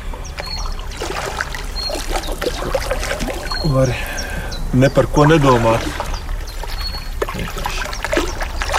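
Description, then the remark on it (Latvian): A shallow stream at the upper reaches of a river trickles and burbles steadily throughout, while people talk quietly over the running water. “Jā, šī pasti upes augštece.”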